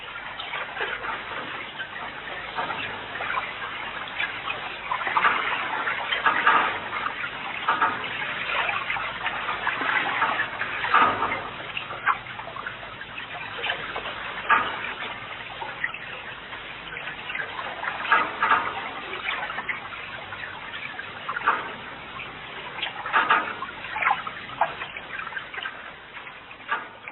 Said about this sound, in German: Das beste Mittel, unerwünschte Klänge zu maskieren, ist seit Jahrtausenden bekannt, der Klang von Wasser.